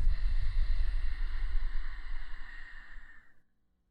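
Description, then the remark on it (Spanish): A long, slow breath out during a guided breathing exercise, a steady breathy hiss with a low rumble, imitating the wash of ocean waves before fading gently into silence. “Mira cómo vienen y van las olas. Y con tu respiración, intenta imitar el sonido.”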